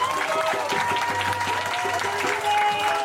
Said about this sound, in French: Donc merci, vous pouvez vraiment vous applaudir. Bravo à vous, bravo à tous.